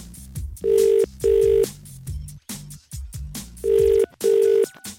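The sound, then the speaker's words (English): A telephone ringback tone of an outgoing call to someone in a Munster county, Ireland, purrs in two double-ring pairs, each pair a steady mid-pitched tone pulsing twice with a gap between, playing loudly over some low background sound. “I'm going to ring them now, though, and see if they've gotten those questions right.”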